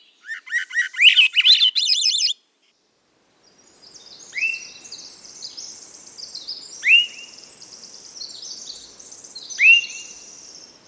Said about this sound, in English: That beautiful, reedy whistle of the Swainson's thrush.